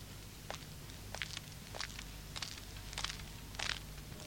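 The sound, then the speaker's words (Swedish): Six or so evenly paced footsteps of a patrol walk by at a steady rhythm, soft, over a low background hum with no voices. “De gick förbi.”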